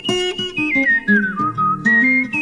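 A human whistles a lively tune, the melody sliding down in pitch and then jumping back up, loud over a steady instrumental accompaniment with no talking.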